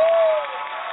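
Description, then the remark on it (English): A short burst of canned applause: dense, crackling clapping that holds steady and then eases slightly, with a faint sustained tone under the first half. “I love, love, love your canned applause.”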